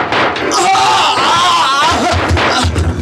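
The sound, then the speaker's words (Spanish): A sharp, loud revolver gunshot, fired by a captain at two men running away, is followed by the anguished, wavering scream of one of the fleeing men as he collapses dying, intense over a dense burst of noise. “Hace funcionar su arma y se escucha un grito angustioso.”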